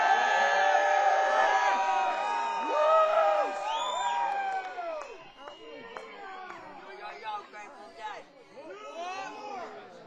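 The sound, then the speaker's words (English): A large crowd cheers and whoops, many voices overlapping in loud, rising and falling yells that gradually thin out and grow quieter toward the end. “Let's give it up one more time”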